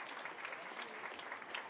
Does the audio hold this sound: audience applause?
yes